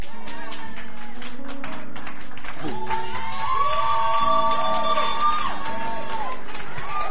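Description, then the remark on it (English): An audience claps in a dense, steady burst of applause, with raised voices cheering and whooping over the clapping midway through. “Now, whether some of you clap or not, it's okay.”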